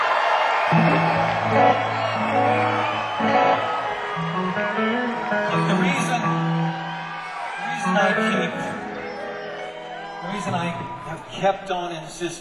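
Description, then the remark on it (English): A loud concert audience screams and whoops continuously, a dense wall of shouting voices, with a person speaking over the din urging them to keep screaming. “Yeah, come on, you gotta keep screaming. Come on, you gotta keep it going.”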